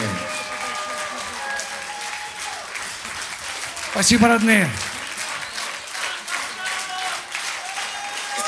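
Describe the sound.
An audience applauds steadily for musicians, a dense wash of clapping that holds for about eight seconds while a man speaks briefly over it midway.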